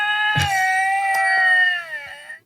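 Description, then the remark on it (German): Two male lynxes yowl and snarl at each other: one long, tense, wavering cry held at a steady high pitch for about two seconds, cut by a few harsh spitting bursts, with no talking. “Die keifen sich gerade krass an.”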